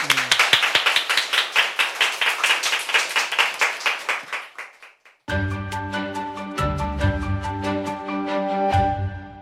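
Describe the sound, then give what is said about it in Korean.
An audience applauds to welcome a lecture by Professor Choi Jin-seok, with brisk, rhythmic clapping that fades out after about five seconds, followed by music with sustained tones and a steady low beat. “여러분 그 강연을 박수로 청해 주십시오.”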